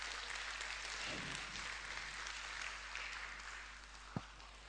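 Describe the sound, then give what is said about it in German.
Sustained applause from an audience giving Jesus a round of applause, a dense steady patter of many hands clapping throughout, moderately loud, with one sharper clap near the end. “Wollen wir Jesus mal einen Applaus geben?”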